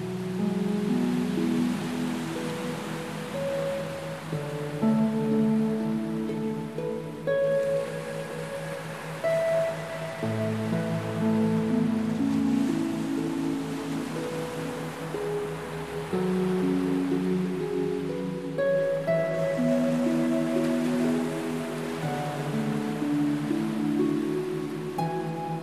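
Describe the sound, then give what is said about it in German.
Sea waves wash onto the shore in slow, steady swells, a soft continuous hiss of surf beneath gentle sustained melodic music; no one speaks. “Und genießt das Meer ausgiebig.”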